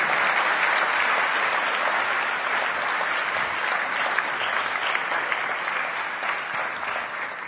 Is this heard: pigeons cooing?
no